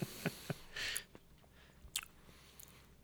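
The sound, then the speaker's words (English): A quiet sip of milk: a short slurping draw followed by soft mouth clicks and a swallow, with no talking. “Sip of milk.”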